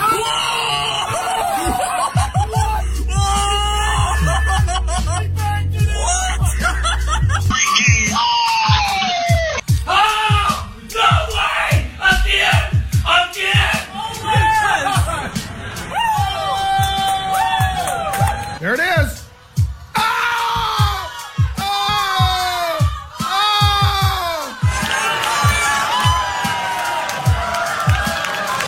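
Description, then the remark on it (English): Excited Hawkeye fans scream and cheer together on a Saturday night in a loud burst, with overlapping yells and shrieks rising and falling continuously for nearly half a minute, punctuated by a brief lull midway. “these are obviously better when you see the video, but I do like hearing the screams from several Hawkeye fans from Saturday night.”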